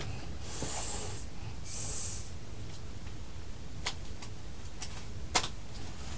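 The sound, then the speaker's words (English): A snake hisses twice in drawn-out, breathy bursts, followed by a few faint sharp clicks against a low, steady background rumble. “snake.”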